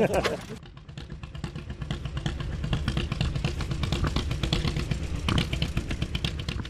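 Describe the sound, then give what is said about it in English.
A vintage tractor engine at the Fall Tired Iron Weekend, owned by Rod Hady of Springdale, revved from the driver's seat about 10 feet off the ground: a loud, steady low rumble with rapid mechanical chugging and clatter running throughout. “He revved the motor from his seat, which was about 10 feet off the ground.”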